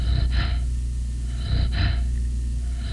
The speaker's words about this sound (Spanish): You are then able to hear the rhythmic respiratory sounds of the chimpanzee. Esto es la respiración normal del chimpancé y aquí se le va a estimular el cerebro.